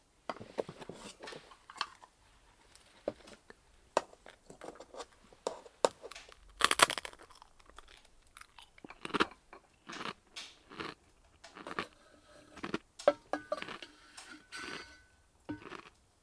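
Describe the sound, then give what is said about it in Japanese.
Crisp, brittle crunching of a carbonated maple-leaf rice cracker (tansan momiji senbei), served as a sweet with tea, being bitten and chewed in irregular bursts, with a short crinkly rustle of a wrapper partway through. No one speaks. “こちらはお茶受けの炭酸もみじせんべいでございます。”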